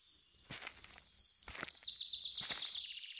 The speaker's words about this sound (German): Vögel zwitschern fröhlich über dir in den Baumwipfeln und spielen miteinander.